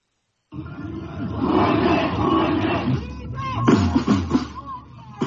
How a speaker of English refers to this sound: A large crowd gathered outside of Tbilisi State Chancellery Building on Tuesday in protest against the arrest of Georgia's main opposition leader, Nika Melia.